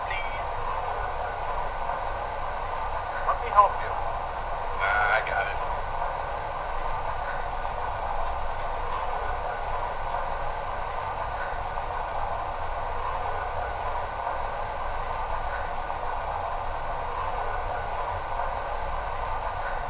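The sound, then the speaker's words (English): A train, number 10, the Pioneer Zephyr, departing on track 1 for Chicago, idles at a station with a steady, even rumble and hiss that fills the whole stretch, broken only by a couple of brief metallic clanks near the start. “Now departing on track 1 for Chicago, train number 10, the Pioneer Zephyr.”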